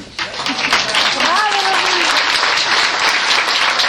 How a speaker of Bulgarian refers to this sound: Аплодисментите не спираха, а първите думи на златната Руми бяха.